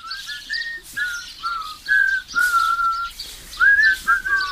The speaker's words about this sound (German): Pfeifend befinden sie sich auf dem Weg zum dorfbekannten Kieselweiher.